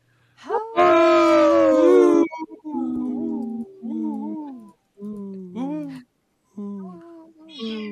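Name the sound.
cat vocalizing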